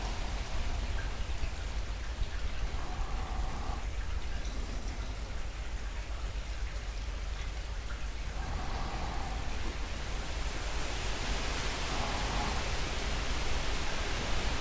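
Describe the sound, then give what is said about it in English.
A steady, hissing wash of ocean waves runs throughout, broad and fairly even in loudness, brightening into a slightly fuller surge toward the end. No one speaks. “And that insistent sound of the waves coming and going.”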